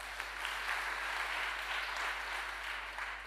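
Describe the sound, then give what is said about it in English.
A crowd at a worship service claps for God steadily for several seconds, a dense wash of many hands with no clear rhythm, holding at an even, fairly loud level throughout. “Give Him a hand clap.”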